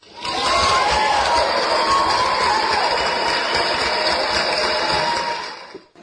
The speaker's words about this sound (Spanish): Ahí están los aplausos, mis papás.